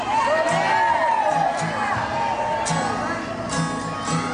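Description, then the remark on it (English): A concert crowd murmurs and chatters continuously, with scattered shouts and whoops rising above the steady din of many overlapping voices. “There must not be anybody there because we can hear them talking.”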